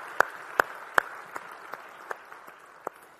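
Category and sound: crowd, audience applause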